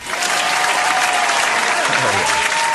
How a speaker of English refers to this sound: Welcome back. I just hate applause. Our studio audience, truly, they're a rough crowd. Rough crowd.